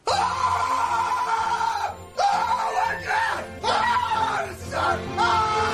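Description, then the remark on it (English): A man, YouTuber LA Beast in one of his video clips, lets out loud, guttural screams of rage in extreme pain in several long, strained bursts, each broken by a brief pause for breath, harsh. “It's like this and he's like screaming this like guttural, like rage type scream.”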